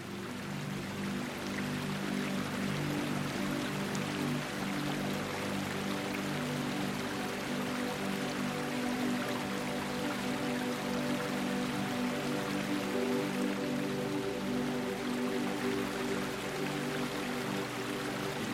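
Water trickles and splashes steadily from a spring in a misty garden, holding an even level throughout, with a soft sustained hum running beneath it and no voices.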